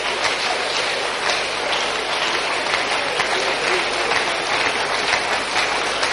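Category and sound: crowd, people clapping hands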